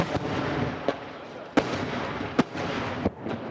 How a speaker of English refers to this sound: Between landing rockets and outgoing Israeli artillery fire to cover the movement of Israeli troops, the noise is relentless.